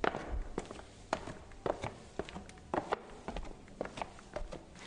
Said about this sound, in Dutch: Trapje af hier.